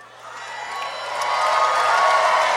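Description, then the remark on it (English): A small group of tabletop role-playing game players claps and cheers after a healing spell is cast on a character. A dense wash of applause mixed with excited voices swells louder over a couple of seconds and holds steady to the end. “Don't applaud him doing the bare minimum, please.”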